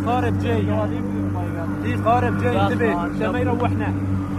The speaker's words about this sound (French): Oh, there is a boat. There is a boat. There is a boat. Fish ship.